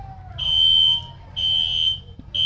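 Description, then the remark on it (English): A shrill, high-pitched fire alarm beeps in three long, evenly spaced pulses, loud and insistent over a low background rumble. “Fire alarm going off.”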